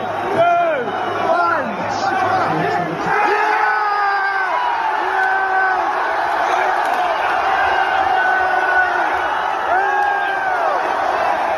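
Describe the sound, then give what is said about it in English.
A huge crowd of about 10,000 people gathered at Fed Square in Melbourne roars and cheers continuously at the final whistle in the morning, with rising whoops and shouted calls layered over a dense, loud wall of voices that holds steady throughout. “We've actually got some audio here of how it sounded at Fed Square this morning for you, where we reckon there was about 10,000 people gathered in Melbourne.”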